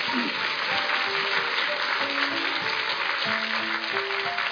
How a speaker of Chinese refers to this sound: 好，那我们今天时间大概差不多了、哦、来，我们第一个再给我们的建疗师一个热烈的掌声。